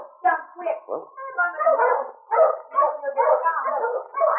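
A dog named Mabel, out on a piece of ice in a river near Selkirk, barks and yelps in a quick, restless series of bursts. It runs for several seconds with hardly a pause and sounds agitated and insistent.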